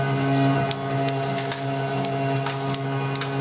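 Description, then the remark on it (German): A typecasting machine runs with a steady mechanical hum while sharp metallic clicks and taps repeat at an irregular clatter as cast metal type letters drop into place in front of the casting mouth. “Die Buchstaben fallen vor den Gießmund, da unten.”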